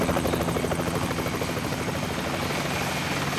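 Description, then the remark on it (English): A helicopter's rotor chops steadily and loudly, a fast rhythmic thudding over a constant engine whine, sustained with no voices. It is a new, large black helicopter bearing a gold dragon corporate logo, arriving at a beach. “The black helicopter bore the corporate logo of a gold dragon in mid-flight.”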